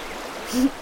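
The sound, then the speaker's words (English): The Humber River flows through a forested ravine with a steady, soft rushing hiss. A brief low tonal hum rises over the water partway through. “Down to my right, I can just see the Humber River as it snakes along the forest.”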